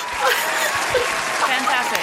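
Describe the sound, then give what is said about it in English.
Studio audience applause fills the whole two seconds, a dense, steady patter of many hands clapping in the studio, with some voices blended into the noise. “Have everybody here in the studio applaud now.”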